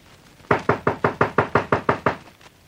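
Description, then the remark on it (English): Police knock on the front door of a house, a quick, steady run of about nine loud knocks, evenly spaced and sharp, with no voices, then quiet. “Knock.”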